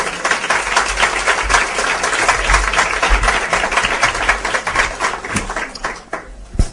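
An audience applauds with dense, steady clapping that holds for several seconds, then thins out near the end, leaving a few scattered final claps.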